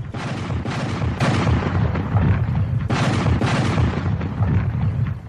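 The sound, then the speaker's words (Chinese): Heavy cannon fire from more than 130 Confederate guns aimed at the Union center line booms repeatedly just after 1 p.m. on a hot July 3, with sharp blasts at the start and near three seconds over a continuous loud rumble of artillery. It is overwhelming, with no voices. The barrage is the signal to attack, and shells burst near Cemetery Ridge. “上午过去了，天气越来越热，下午1点刚过，南军大炮打响一下又是一下，这个是行动的信号。”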